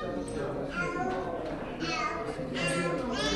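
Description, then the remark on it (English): A toddler in a pink stroller sings her ABCs in a high, sing-song voice, steady, with the pitch rising and falling in short phrases, over a quiet hum in a dimly lit legal aid waiting room in downtown Baltimore, one block from City Hall, where a few dozen people wait. “The lights dim and the mood's downcast, except for a toddler in a pink stroller singing her ABCs.”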